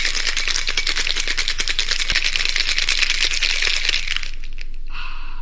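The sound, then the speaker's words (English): A cocktail shaker rattles ice as a cocktail is shaken up, in a fast, steady, loud clatter for about four seconds, then the shaking stops and a few brighter, fading rattles follow. “And one person did say, the way you say hello after we come back from shaking up a cocktail.”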